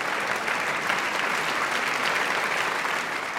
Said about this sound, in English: Price was a reserved person, so it must have been overwhelming for her to be called back to the stage over and over again, because the applause just would not stop.